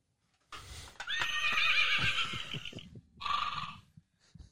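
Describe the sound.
A horse gives a loud whinny, a long wavering neigh followed by a shorter second burst, with soft snorting and thumping hoof sounds underneath.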